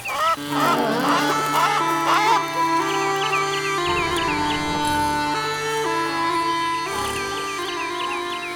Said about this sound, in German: saß auf dem Baum und blies nach Lust und Laune auf seinen Dudelsack.